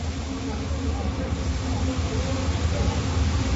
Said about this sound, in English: Got our first train rolling by.